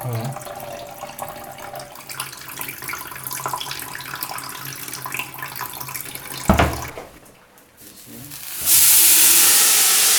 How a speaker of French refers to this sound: Donc le riz que tu avais mis à tremper dans de l'eau, tu mets dans la casserole. Donc tu enlèves le surplus d'eau de la casserole de riz.